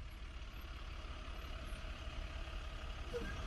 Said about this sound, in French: Rapide. Elle est passée en camion poubelle, là, et puis pouf, elle est repartie.